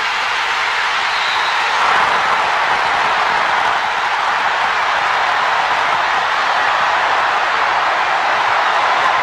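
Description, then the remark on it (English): A large arena crowd roars after Christian Laettner's winning shot against Kentucky in a college basketball game. The cheering is a loud, sustained wall of noise that holds steady for the full stretch, with no single voice standing out. “I mean, Vern Lundquist just let the crowd take over, and that's a conscious decision.”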